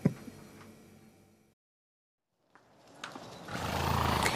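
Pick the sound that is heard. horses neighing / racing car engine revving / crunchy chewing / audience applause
horses neighing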